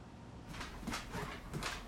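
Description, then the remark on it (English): A dog, Maggie, whimpers and grunts in short, excited bursts while pacing, several quick snuffly sounds in a row, fairly quiet, with a faint background hiss. “Maggie is pacing, making excited whimpers and grunts.”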